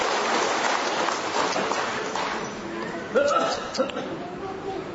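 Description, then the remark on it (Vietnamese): A round of applause: dense, crackling clapping from many hands that gradually thins out, with a brief voice and a few short tones rising over the fading claps near the end. “Rồi chúng ta trong một tràng pháo tay thưa anh chị em.”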